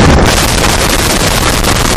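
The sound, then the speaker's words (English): A person known for sound effects imitates a helicopter: a loud, breathy, continuous whooshing roar blown at the microphone, with a faint rapid chopping flutter running through it for about two seconds. “Dude, the helicopter. We need the helicopter.”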